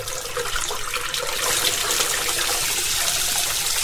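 Hot tap water runs into a plugged bathroom sink as a steady, hissing rush that swells louder a little over a second in and then stays constant to the end, with no voices.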